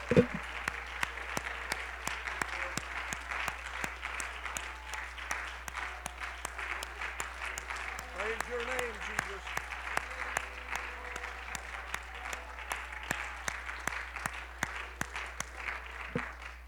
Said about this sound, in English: Come on, give your hand clap to the Lord.